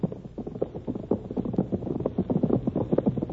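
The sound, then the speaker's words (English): Several horses gallop, men riding in pursuit of a rider across plains, their hoofbeats pounding in a rapid, overlapping rhythm that stays loud and steady throughout, with a faint rush of wind underneath. “Behind her thundered the horses of Bart Benson and Butch.”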